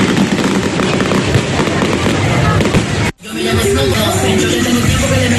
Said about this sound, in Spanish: Muy aplaudido el espectáculo pirotécnico y de luz y sonido sobre la capilla.